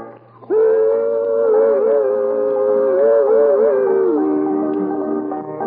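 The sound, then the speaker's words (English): The whistle of a steam train from Spruce Pine on its morning run sounds one long, loud, sustained blast with a steady mid-pitched tone that wavers slightly before easing down near the end, over a low rumbling hum. “And as though given the pitch by the sound of its whistle, Lula Bell and Scotty start a song about another railroad.”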